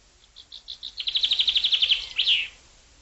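A thrush whistles alone: soft high notes that quicken into a fast, even trill of about a dozen bright chirps, ending on one slightly louder, buzzy note.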